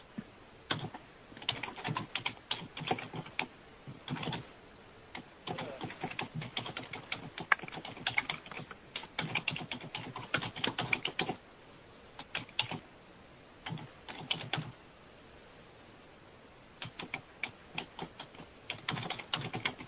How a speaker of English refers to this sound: Right, let me finish typing it.